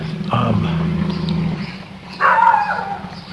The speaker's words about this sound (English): And a loud dog.